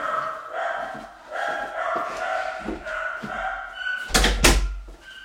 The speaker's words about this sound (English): Just close the door 1 second.